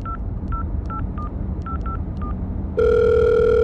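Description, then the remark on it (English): A phone call being placed to a financial advisor: seven quick keypad beeps tap out a number over a low background hum, then a loud, steady ringing tone takes over and holds to the end. “Okay, I'll give him a buzz.”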